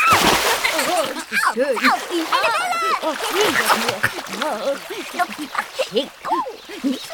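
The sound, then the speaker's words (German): Steady, lively water splashing and sloshing fills the scene, with high, bird-like chirps and voice-like calls bobbing over the watery noise throughout. “Dann planscht die kleine Erdbeerfee gemütlich auf ihrem Seerosenblatt”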